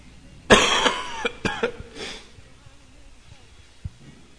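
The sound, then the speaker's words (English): A man preaching a sermon coughs several times in quick succession, a harsh cough followed by a few shorter hacking bursts, then quiet. “I don't suppose anybody has a cough drop, do you?”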